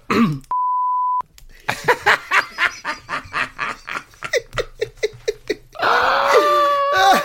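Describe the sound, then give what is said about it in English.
A steady electronic censor beep, a flat tone lasting under a second, bleeping out a name, cuts in right after a brief vocal sound, followed by bursts of laughter and a loud, excited chuckle at the end. “I'll tell you and I'll beep it out as well.”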